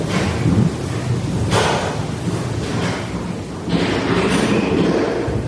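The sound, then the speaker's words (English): Heavy thuds and bangs, like doors and cupboards shutting and feet stomping, land at irregular intervals over a constant loud rumbling noise, recorded in an empty house with nobody inside. No one speaks. “And it sounds like doors are shutting and cupboards are shutting and people are stomping.”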